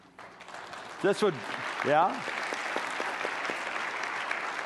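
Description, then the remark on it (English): An audience breaks into steady, dense applause that holds through the whole clip, with a couple of loud voices whooping or cheering early on above the clapping. “That's a very appropriate time to clap.”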